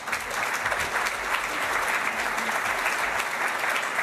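Steady, sustained clapping from an audience, a dense wash of many hands at an even loudness for about four seconds, with no voices standing out.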